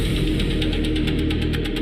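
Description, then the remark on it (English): A deep, steady sub-bass rumble drones continuously, with a faint pulsing, metallic shimmer repeating high above it at a regular rhythm. No voices, just a dense, throbbing low hum. “Low rumbling sub-bass. Distant metallic echoes.”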